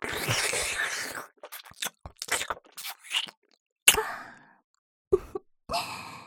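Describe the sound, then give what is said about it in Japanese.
Wet licking and slurping mouth sounds in irregular bursts with short pauses, after a long breathy exhale at the start, as a woman licks her own chest and slurps semen; no talking. “自分の胸をなめ回して小種をすする私の姿、興奮していただけますか。”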